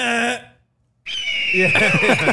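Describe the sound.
A loud, shrill eagle screech sound effect played from a soundboard rings out briefly, then cuts to silence before a noisy stretch with a steady high whine and a voice talking underneath.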